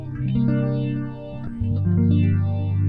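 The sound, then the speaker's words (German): An electric guitar plays sustained, overlapping chords drenched in a swirling phaser effect, the tone sweeping up and down continuously, loud and steady with no voices. “So Sounds wollte ich haben. Ja. Schön. Phaser-Alarm.”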